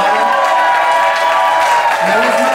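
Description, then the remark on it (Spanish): A crowd claps steadily for a few seconds, applauding a man's mother who is present in the audience, a dense, continuous patter of many hands, fairly loud, with a voice briefly rising through it near the end. “Ah, bien con su mamá que está aquí el día de hoy, su mamá, un aplauso.”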